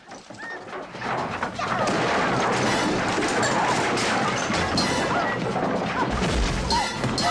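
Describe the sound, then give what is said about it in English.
A wooden banister on a staircase smashes apart in a loud crash as a girl is thrown off the staircase during a brawl, followed by several seconds of dense splintering and clattering debris, with a heavy thud near the end. “The drinkers watch unmoved as one girl throws the other off a staircase, smashing the banister.”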